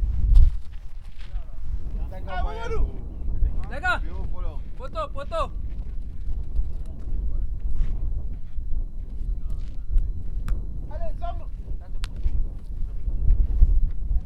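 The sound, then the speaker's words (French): Wind blows steadily across the microphone, a constant low rumbling roar for the whole stretch, with a few voices calling out briefly in the background. “Oh, il y a le vent.”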